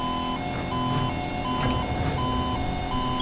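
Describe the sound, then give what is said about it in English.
An AI-controlled truck in a driving video game backs up with steady reversing beeps: about six evenly spaced, mid-pitched electronic tones, clearly audible over a continuous low engine rumble. “Oh, go on, you stupid truck.”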